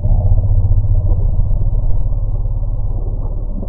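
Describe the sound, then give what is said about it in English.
A modified elephant alarm rumble about bees, with key acoustic features removed by researchers: deep, continuous, low and loud, holding steady for several seconds with a throbbing, engine-like texture and nothing above the low range. No one speaks over it. “essentially the same vocalization you heard before, but the researchers removed some key acoustical features in it that they think were specific to the bee response”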